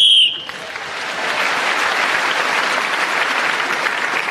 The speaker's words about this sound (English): …, speaking as the whistle went, gained that last point